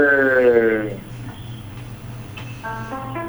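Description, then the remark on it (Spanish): Thin, tinny on-hold music plays over a phone line while the callers are put on hold, with steady synthetic tones that fade briefly into line hiss before the melody returns. “Esa musiquita es tan deprimente.”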